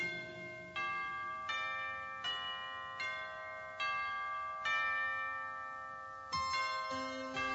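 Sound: bells ringing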